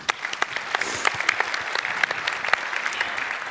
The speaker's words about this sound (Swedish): Då tycker jag att ni ska ge er själva en applåd.